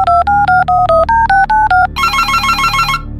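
A telephone number being dialed to call the Jammu police: about ten quick, evenly spaced touch-tone beeps of varying pitch, followed by a loud, fast-warbling electronic ring. No voices.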